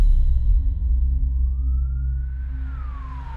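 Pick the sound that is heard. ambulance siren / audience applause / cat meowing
ambulance siren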